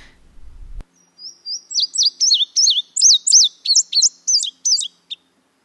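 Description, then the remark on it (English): An indigo bunting, a brilliant blue songbird, sings a bright, high-pitched, melodic song of quick paired notes, about four seconds of clear repeated phrases, alone after a brief soft thump at the start. “Otherwise, it looks jet black, but the indigo bunting is actually a brilliant blue.”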